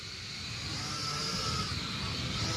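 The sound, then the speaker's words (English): A surveillance drone hums overhead, a steady whirring buzz with a faint high whine running through it, holding an even loudness for a few seconds with no voices. “Here comes a drone, ever watching.”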